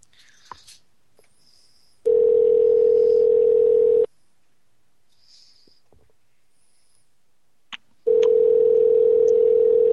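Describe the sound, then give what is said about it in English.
An outgoing phone call to an expected guest, the second attempt, rings with no answer: two loud, steady two-second ringback tones separated by a long pause of near silence, with only faint small clicks between them. “Like, why go to all the trouble of talking to me about coming on just to not answer your phone?”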